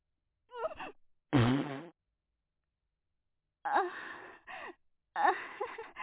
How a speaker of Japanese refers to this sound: みんなおはよう。おならで起こしちゃってごめんね。